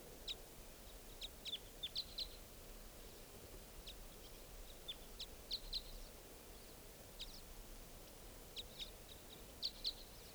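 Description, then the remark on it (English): At least four wild birds call at 8:08 a.m. with short, high chirps in scattered bursts over a steady hiss of background noise. The calls come in small clusters throughout, with no talking. “There are 4 birds here, at least.”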